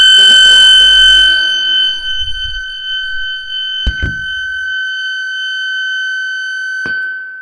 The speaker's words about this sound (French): Ah, téléphone! Je coupe.